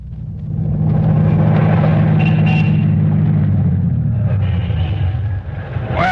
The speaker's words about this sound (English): Doc, get this car in shape. It sounds like it hasn't been greased in a year.